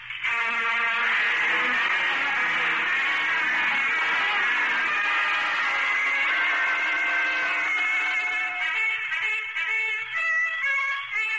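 A dense, high-pitched whine of many mosquitoes buzzing inside a tent, a steady droning swarm that wavers slightly in pitch and stays loud throughout, with no voices.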